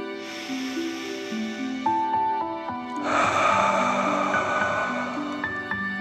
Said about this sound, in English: Again, breathe in through your nose and out through your mouth, pretending you are breathing fire. Deep breath in and out.